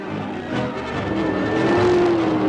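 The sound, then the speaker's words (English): A car engine roars steadily with a loud, gritty rumble, while a rising whine cuts through near the end, like tires screeching in a skid. It is the driverless car from the film The Car. No one speaks. “There was no driver in the car.”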